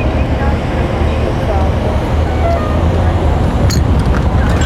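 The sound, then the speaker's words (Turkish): A U2 bus bound for Beşiktaş and Ulus idles and rumbles amid steady street traffic, a constant low engine drone with a brief clatter near the end and faint indistinct voices underneath. “Bu otobüs ne? Önümüzdeki.”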